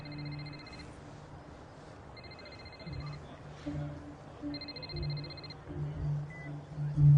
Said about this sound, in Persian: باید تلفنتو جواب بده.